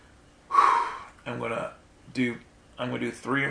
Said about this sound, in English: So the silence you're going to hear is me breathing slow and deep and starting to focus on my image.